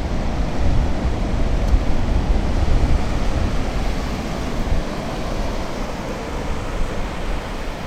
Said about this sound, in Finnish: Palataan Riiasta Jurmalan kuuluisille hiekkarannoille ja pauhaavien aaltojen äärelle. Jurmalan hiekkarannoilla on pituutta lähes 30 kilometriä.